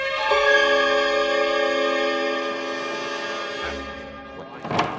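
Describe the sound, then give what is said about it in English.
A heavy door creaks open as Jesus of Nazareth is let go free by the council, with a long, steady, groaning tone that drifts slightly in pitch for several seconds, ending in a short thud. No voices are heard. “Look, Jesse, the door's opening.”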